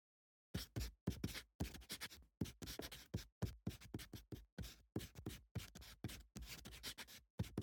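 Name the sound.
pen writing on paper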